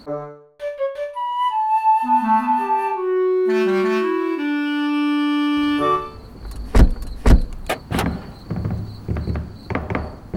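Loud sustained horn-like tones shift in pitch for several seconds, then give way to a burst of heavy thuds, bangs and rattling as a speeding car runs a red light and nearly hits a parked car.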